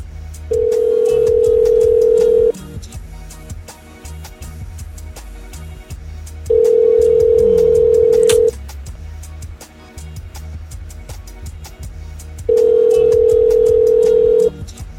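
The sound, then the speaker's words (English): An outgoing phone call's ringback tone repeats three times, each steady two-second tone followed by a pause of about four seconds, clear and prominent over faint background noise. “I'm going to try to get on the phone”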